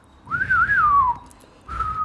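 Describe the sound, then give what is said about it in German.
A person whistles a short melodic phrase from a western film theme, a wavering tune rising and falling for about a second, then a brief pause before a second sustained whistled note. Clear, no speech. “Ich denke gerade an eine Handvoll Dollar oder eine Handvoll Dollar mehr mit Clint Eastwood, wo dieses Pfeifen kommt.”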